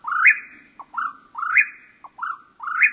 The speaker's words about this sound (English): After dark, when most birds sleep, a few break into song, like this whippoorwill.